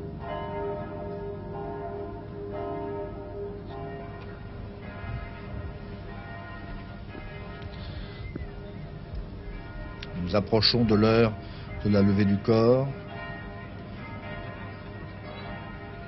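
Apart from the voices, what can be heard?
church bells ringing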